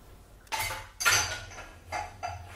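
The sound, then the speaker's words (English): Dishes clatter and clink as they are set into a dishwasher rack, four or five bright, clattering knocks of crockery and cutlery spread over a couple of seconds, with no talking. “Are you doing tea after you've loaded the dishwasher?”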